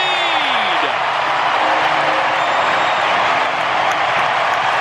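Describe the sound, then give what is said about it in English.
A huge stadium crowd roars after Kyle Schwarber's bases-loaded grand slam for the Phillies, the seventh of his career, in a sustained, loud wall of cheering, with whoops and applause blending together and no letup across the whole stretch. “Listen to the crowd”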